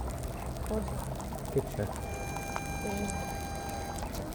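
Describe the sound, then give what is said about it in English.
Hot spring water bubbling and gurgling steadily at a low level, with occasional slightly louder pops and a faint, steady hum in the background. “J'enregistre les bulles des sources thermales.”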